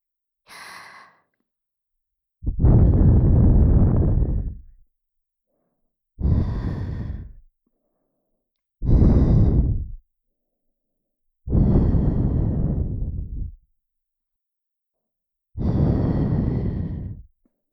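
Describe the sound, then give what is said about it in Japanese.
Five soft breaths blown gently into the ear, ASMR-style, each a breathy whoosh lasting one to two seconds, separated by brief silences, with a small airy intake at the start. “さて、それではもう一度、お耳フーフーしていきます。”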